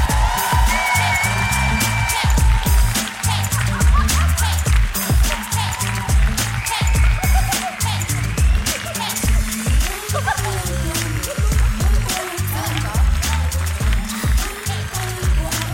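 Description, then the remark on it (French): An audience claps steadily and loudly for about sixteen seconds to welcome guests Lola Dubini and Alex Ramirez as they enter, a dense, continuous patter of applause, with music and some faint voices running underneath. “Un tonnerre d'applaudissements, s'il vous plaît, pour Lola Dubini et Alex Ramirez.”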